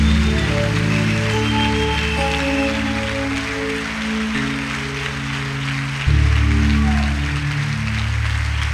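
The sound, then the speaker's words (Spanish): After a prayer, an audience applauds the Lord steadily for several seconds, a dense crackling wash of clapping over sustained keyboard chords that shift pitch, swelling slightly louder near the end. No one speaks. “Otro aplauso al Señor fuerte.”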